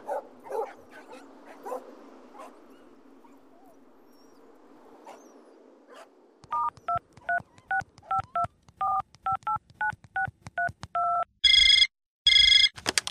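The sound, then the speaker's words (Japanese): A telephone rings loudly in two short electronic bursts near the end, after a quick run of dialing beeps, with a dog barking faintly a few times at the start. “じゃあ2時頃の電話には出ないに越したことはないな。”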